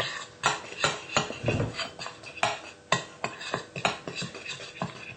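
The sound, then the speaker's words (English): A utensil scrapes and clinks repeatedly against a bowl as icing sugar and cocoa powder are stirred together to make icing for biscuits, a steady series of sharp taps and soft scratchy strokes, with no voices. “So we'll put our icing sugar in. And the cocoa. And mix that round.”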